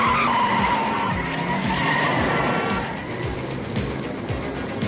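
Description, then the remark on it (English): A car's tires squeal and skid loudly as it peels away, engine roaring under a continuous screeching whine for several seconds with no one speaking. “Get us out of here before he gets out of the car!”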